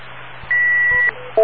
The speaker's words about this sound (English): Wait for the beeps.